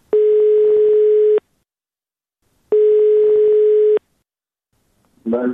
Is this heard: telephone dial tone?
yes